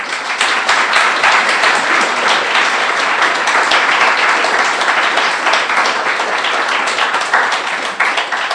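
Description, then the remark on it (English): A crowd applauds loudly and steadily for about nine seconds, many hands clapping in a dense, even wash of sharp claps with no voices breaking through. “He deserves a real round of applause.”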